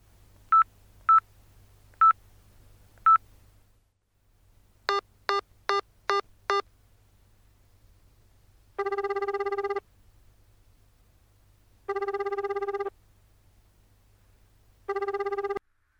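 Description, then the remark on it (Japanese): A few soft beeps, then a quick run of five keypad tones as a phone number is dialed to call an older sister, followed by three long, evenly spaced electronic rings over a low hum. No one speaks. “さあ、何も言ってなかったと思うけど、用があるなら電話してみれば？”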